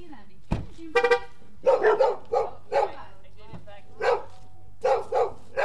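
Dogs bark repeatedly in loud bursts of yips and woofs, announcing the arrival of visitors, coming in irregular clusters over several seconds, with a sharp knock near the start.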